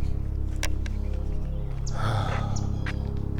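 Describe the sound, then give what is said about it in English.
A woodpecker up in a tree overhead pecks in a few sharp, scattered taps, with faint bird chirps, all over a steady low rumble of background noise outdoors. “What is that sound? Oh, there's a woodpecker up there.”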